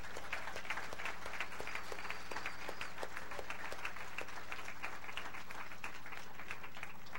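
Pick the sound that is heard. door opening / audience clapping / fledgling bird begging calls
audience clapping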